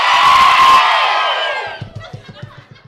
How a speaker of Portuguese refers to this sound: Quando eu disser sejam bem-vindos, meus caros amigos, eu quero que vocês deem a vaia cearense mais rasgada que vocês puderem dar na vida de vocês.